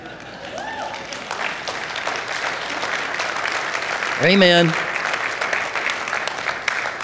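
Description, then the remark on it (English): Loud, dense applause from a large crowd fills the whole stretch, steady and sustained, with a single voice calling out briefly partway through and a faint shout near the start. “Well, I want to thank you for that thunderous applause.”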